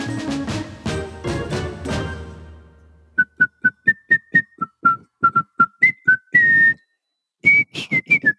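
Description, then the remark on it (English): After a few seconds of music, a Samsung clothes dryer's end-of-cycle melody plays alone: a bright, bouncy tune of short, high, pure beeping notes with a couple of held tones, a brief pause, then a final phrase. “Anybody have a Samsung dryer out there?”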